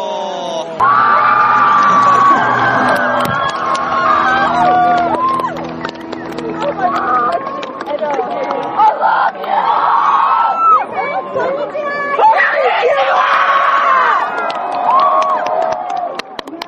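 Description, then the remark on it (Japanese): A large concert crowd screams and cheers continuously, a dense, loud wall of overlapping shrieks, whoops and excited voices that swells and surges for the whole stretch, with faint low music underneath early on. “あの絶叫と熱狂の渦の中、ちょっとあの会場では収録がさすがに難しかった”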